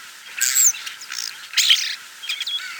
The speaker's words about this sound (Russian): Снег растает до конца, и послышится скворца песенка простая.